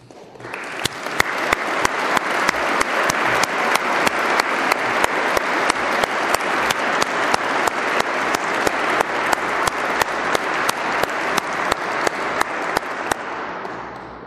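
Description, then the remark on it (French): At an Académie prize ceremony, a crowd applauds the standing prize winners steadily for about fourteen seconds, a loud, dense wash of clapping with sharp individual claps standing out, then tapering off at the end. No one speaks. “Je demande à ces lauréats de bien vouloir se lever afin que nous puissions les applaudir.”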